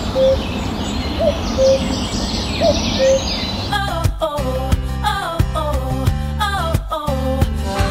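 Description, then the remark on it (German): A bird repeats a short two-note "wah-oh" call several times against hissy outdoor ambience, then a rhythmic pop tune with beats and melody takes over for the rest. “Und auch Vögel machen genau das Gleiche.”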